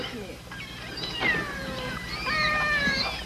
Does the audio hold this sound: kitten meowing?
yes